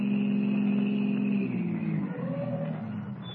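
A car engine runs steadily with a low, even hum, then its pitch drops and wavers as the car turns off the Conway Turnpike and slows to a halt on a well-hidden wagon road, settling into a quieter idle.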